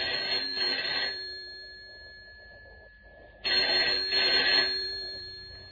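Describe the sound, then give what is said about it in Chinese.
A telephone bell rings in two loud bursts with a brief pause between them, each ring trailing off slowly. No voices are heard. “啊，大概是勇于他们来电话了。”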